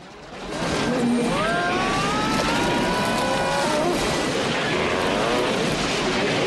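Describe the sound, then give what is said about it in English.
A loud, continuous helicopter engine roars as the redlining chopper careers towards jungle, its straining whine sliding and wavering in pitch over a thick rush of rotor noise, with no one speaking. “The chopper careers towards jungle.”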